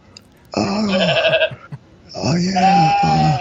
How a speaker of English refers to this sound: Oh, the goat's saying hi to you.